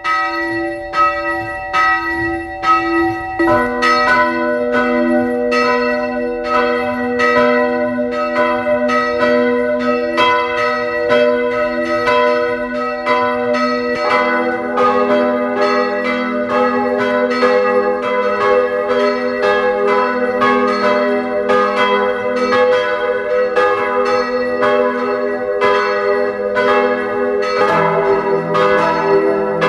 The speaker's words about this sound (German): Es ist 12 Uhr. Sie hören die Glocken der Pfarrkirche St. Margarethen im Rosental in Kärnten.